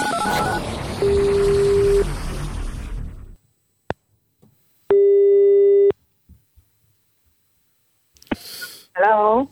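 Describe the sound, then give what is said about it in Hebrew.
A telephone ringing tone sounds once, a loud, steady one-second burst after a moment of quiet, as a computer at radio station Radio Kol Chai dials one of the message senders for a surprise call. A fainter tone hums earlier beneath busy noise, and brief chirpy sounds follow at the end. “ועכשיו אנחנו הולכים לחייג, המחשב שלנו הולך לחייג לאחד מבין כל השולחים.”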